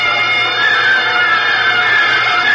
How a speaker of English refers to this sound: Hysteria burst through her. And from her lips, there burst suddenly a single unanswered scream.